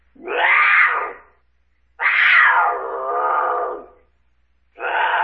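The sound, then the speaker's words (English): A mountain lion's cry: three loud, drawn-out wailing screams with brief silences between them, clear with no talking, the middle one longest and sliding downward. “Mountain lion? You're both right.”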